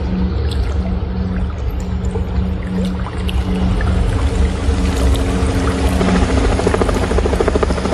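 A helicopter roars overhead, its rotor churning in a loud, steady, unbroken drone with a deep low hum throughout. No voices.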